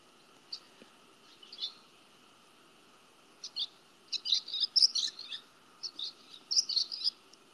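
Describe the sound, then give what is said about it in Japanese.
Birds flying around right in front chirp close by in quick, bright bursts of short tweets, scattered at first and then denser toward the end, with no one talking. “鳥がめっちゃ目の前で飛び回ってる。”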